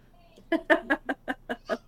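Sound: birds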